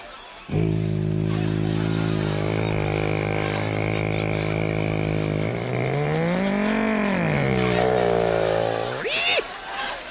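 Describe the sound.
A voice imitates Gene Autry's airplane coming out of a cloud in a power dive, a loud, steady droning engine hum that swoops up and down in pitch as if diving, ending in a quick rising whine.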